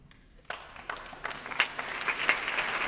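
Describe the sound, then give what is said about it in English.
Applause from a concert audience for soloist Pierre-Laurent Aymard and conductor Jonathan Nott with the BBC Symphony Orchestra builds from near silence into steady, dense clapping from many hands. “And applause for soloist and conductor Pierre-Laurent Aymard, with Jonathan Nott bringing up the rear.”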